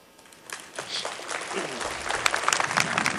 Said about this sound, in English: The family members rose from their seats and turned to applaud the country folk of Somerset County who've treated them like neighbors as they've come to visit this site and mourn.